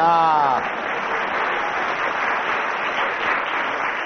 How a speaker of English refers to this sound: So can we have a round of applause for our two adjudicators? Yeah. And also another round of applause for